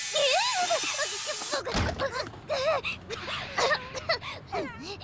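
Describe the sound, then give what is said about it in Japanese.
A steady, loud hiss of insect repellent spray runs for about a second and a half while someone whimpers and protests over it, then stops abruptly and only the agitated voice continues. “虫除けスプレーだ。”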